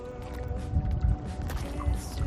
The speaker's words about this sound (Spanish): Amigos de La Contraportada, saludos desde Escastell, un pueblecito pequeño de la isla de Menorca, un pueblecito pesquero, tranquilo, donde solo se escucha esto, el romper de las olas.